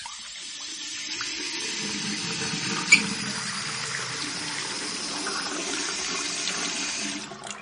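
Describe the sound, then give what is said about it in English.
Water runs steadily from a tap shared by 55 families in Cape Town, a continuous splashing hiss with a single faint clink partway through, then it stops. “55 families share a single tap.”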